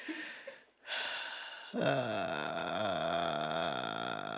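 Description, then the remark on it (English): A voice imitates a man's loud breathing as he lies going to sleep, every inhale and exhale audible: a breathy, hissing inhale followed by a long, droning voiced exhale with a low, wavering pitch that carries steadily to the end. “he starts doing this like noise where I hear every inhale and every exhale”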